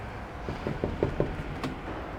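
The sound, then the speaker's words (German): Several quick knocks rap on an office door at the Recyclinghof Lohecher recycling yard in Zürich-Affoltern, an evenly spaced series of dull taps followed by a brief rattle, over a low background hum. “Das ist das Büro. Wir klopfen mal.”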